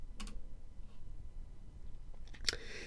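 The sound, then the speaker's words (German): A couple of soft clicks near the start, then after a quiet pause one sharper, crisp mouse click in the empty space at the end of a spreadsheet's sheet tab row, all over a faint low hum with no voices. “Oder als dritte Möglichkeit, klicken Sie in den leeren Raum am Ende der Reiterreihe. Hier zum Beispiel.”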